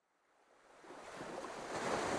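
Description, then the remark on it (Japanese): Soft ocean waves of a calm night sea wash in steadily against a small breakwater, a broad hissing surf that swells gradually louder over a couple of seconds, calm and unhurried, with no voices present. “穏やかな夜の海に浮かぶ小さな防波堤。”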